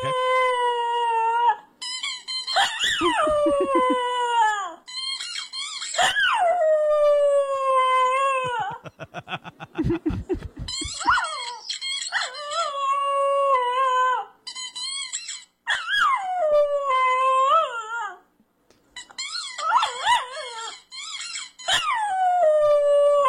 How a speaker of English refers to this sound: Here is the dog with his love-hate relationship with his own squeaky toy. Keep in mind, only one dog, only one toy.